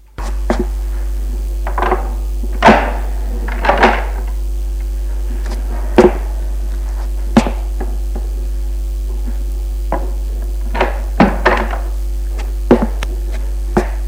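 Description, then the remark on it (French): A door in an old apartment building, on the first floor, is unlocked with a key taken from a pocket and opened: a run of sharp metallic clicks, rattles and thunks at irregular intervals over a steady low electrical hum, with no voices. “Il attend un peu, puis prend la clé de sa poche et ouvre la porte.”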